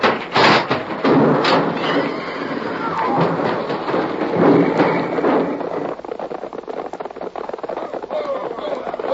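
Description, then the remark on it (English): A runaway stagecoach whose brake does not work crashes in a loud, rumbling roar of clattering wood and pounding hooves, with sharp bangs in the first seconds before the din settles into scattered rattling. “It's my stage. They pulled it out. I can't stop. The brake. It don't work. We're going to crash.”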